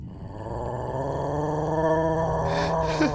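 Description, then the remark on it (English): A low, sustained growl from a green-furred creature rumbles steadily for several seconds, fairly loud, with a harsher rasping edge building toward the end. “Yeah, growl all you want.”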